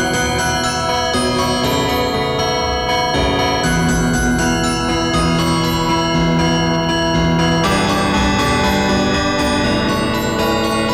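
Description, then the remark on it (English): Church bells ring out a melody, a sequence of loud, ringing strikes whose overlapping tones linger and blend, played continuously as a tune with no voices present. “we're going to replay the church bells again very, very briefly.”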